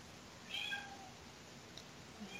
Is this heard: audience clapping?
no